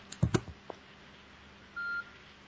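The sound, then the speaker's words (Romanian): A single short electronic low-battery warning beep from a phone whose battery is running down, a clean steady tone lasting about a third of a second, preceded by a few faint clicks and handling noises in otherwise quiet surroundings. “Ce m-aș cum s-a descărcat telefonul? Mi se descărca telefonul meu.”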